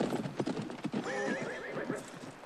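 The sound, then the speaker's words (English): A ridden horse balks at jumping a tree: its hooves clatter in a quick, uneven scuffle, then it lets out a loud, wavering whinny, followed by a few more hoof thuds. “Teddy follows, but her horse balks at a second tree.”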